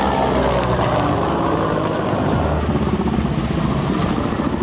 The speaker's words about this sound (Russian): Было шумно, начали летать самолеты. Я не знаю, что это были за самолеты. Наши, не наши.